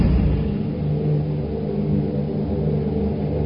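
A deep, sustained thunder rumble rolls steadily throughout, low and heavy with no sharp crack, holding a fairly loud, even level from start to finish with no voices.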